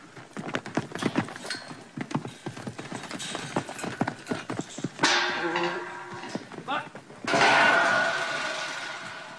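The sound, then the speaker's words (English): Stock horse hooves clip-clop across a hard yard in a quick, uneven rhythm as the horses are being broken in, followed by bursts of louder rustling and scraping movement toward the end. “I've been riding stock horses since I was six and breaking them in since my teens.”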